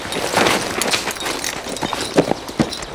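Horse hooves clip-clop at a slow, uneven pace, a handful of hollow strikes against a steady outdoor hiss, moderately loud, with no one talking.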